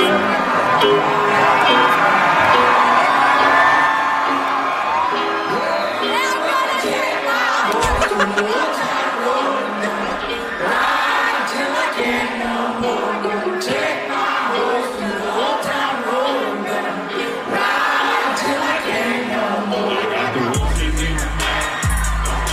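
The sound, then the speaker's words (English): A large concert crowd cheers and sings along loudly over music, the entire crowd knowing all the words to the song, a dense, steady roar of many voices with scattered shouts and laughter, ending in a burst of low, thumping bass. “The entire crowd sang along with that song.”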